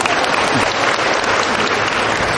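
Steady audience applause, many hands clapping in a dense, even wash of sound at a constant loud level throughout, with no voices standing out.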